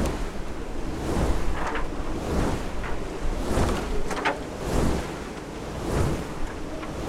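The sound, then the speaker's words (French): The red sails of a windmill race out of control in a strong gusting wind as the mill is about to be turned out of the wind, each blade sweeping past with a loud rhythmic whoosh roughly every second over a constant roar of wind. “Alors là, il est en train de s'emballer. Alors ce qu'on va faire, on va essayer de le sortir du vent pour le calmer un peu.”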